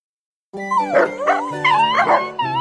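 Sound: dogs barking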